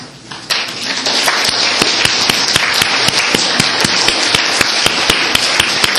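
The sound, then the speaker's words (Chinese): At a church service on Father's Day, a crowd applauds the fathers, who have been asked to stand. The clapping is steady for several seconds, a dense wash with a few sharp, louder individual claps standing out at a fairly regular pace. No one speaks. “就像母亲节一样，我们请所有的父亲站起来，我们大家向他们致敬，向他们鼓掌，请所有的父亲。”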